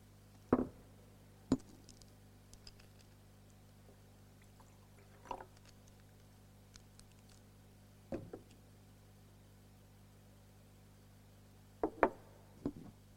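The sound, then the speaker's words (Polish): Someone pauses to drink water: a handful of sharp clinks and taps from a glass being handled, spread over quiet stretches, with a steady low hum underneath and no talking. “Wezmę łyk wody i powiem co.”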